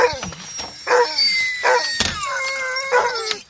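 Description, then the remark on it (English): A crowd of excited sled dogs whining, yelping and howling over one another, loud, while they are harnessed by a truck and the sled is made ready, with occasional thumps and clanks of gear mixed in. “And then we harness them there and get the sled and everything ready. And in that process, there's always a lot of excitement because they're excited to go.”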